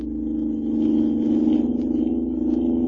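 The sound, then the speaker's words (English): A car engine roars steadily at high speed as the car races away from a pursuing car, a continuous loud low-pitched drone with a rumbling undertone and faint rattles, sustained throughout with no voices. “Looky at us go! Leaving it behind like it was standing still. This car's got an engine in it, all right.”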